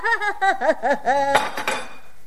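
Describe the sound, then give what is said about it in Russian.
A run of short, high voiced bursts like laughter gives way to a sudden ceramic smash as a woman breaks a cup, followed by a quick clatter of shards and a thin ringing tail. “Это ты зачем разбила чашку?”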